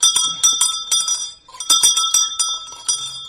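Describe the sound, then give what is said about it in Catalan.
Church bells ring out in a lively festive peal, several bells striking in quick overlapping succession with bright, sustained metallic tones, loud, with no voices. “un toc que faríem seria un toc festiu, per exemple, que seria campana”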